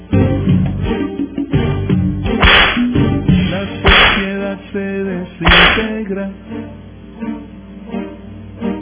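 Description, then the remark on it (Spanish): Three loud, sharp whip cracks snap out at roughly even intervals, layered over a steady backing of music that continues after the last lash. “Vamos a darles la canción de la traición y los respectivos latigazos por esto, ¿verdad?”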